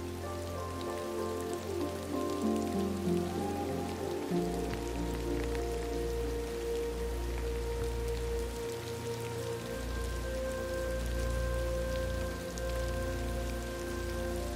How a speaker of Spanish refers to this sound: La lluvia se conecta a tu corazón, trayendo consigo recuerdos, momentos de tu vida que tal vez te han conmovido, te han dolido